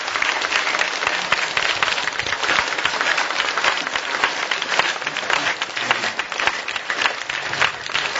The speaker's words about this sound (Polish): Było dużo braw, a teraz jeszcze najszczersze brawa, takie najgorętsze. Dziękujemy księdzu biskupowi za to, że jest z nami.